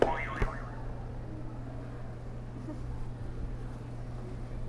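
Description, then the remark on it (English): A buzzer is hit: a short, springy game sound effect bursts out at the start, followed by a steady low droning tone that holds for several seconds with no one talking. “You can hit another buzzer.”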